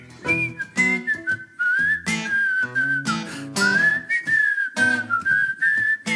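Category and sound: human body sound, person whistling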